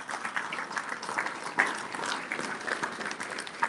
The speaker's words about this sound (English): So please give Jim a round of applause.